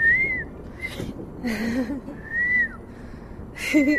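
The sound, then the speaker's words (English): A woman in Beijing whistles a signal calling cats to eat: two sustained, gently arching tones separated by breathy, airy bursts and a low murmuring sound, with no speech. “A whistle, and the only whistle cats in Beijing know to respond to.”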